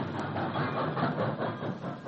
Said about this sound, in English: And then the great voice of the train, heard far off as it pants and slows and stops at the tower to refresh its thirst.